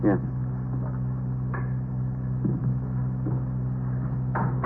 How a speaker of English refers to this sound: Go ahead. Open the door. Go ahead.